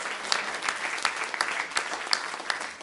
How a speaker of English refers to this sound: Let's give the Lord another hand clap of praise for these testimonies. He's worthy of our praise.